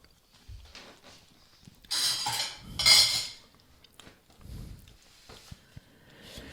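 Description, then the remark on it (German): Metal cutlery clinks and scrapes against dishes in a few bright bursts, with quieter clatter in between and no talking. “Das ist hier so eine Bestecksache am Laufen.”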